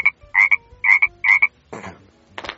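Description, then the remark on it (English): An American bullfrog (Lithobates catasbionus) croaks in four quick, evenly spaced doubled pulses with a buzzy, twangy tone, followed by two rougher, noisier bursts. No one speaks over it. “The Lithobates catasbionus goes...”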